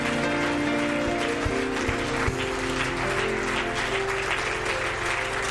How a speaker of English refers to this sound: Give the Lord a hand clap this morning.